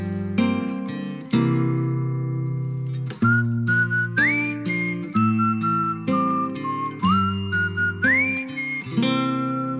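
Someone whistles a slow tune, holding long notes and sliding up between some of them, over steady instrumental music with struck chords. The whistling is clear.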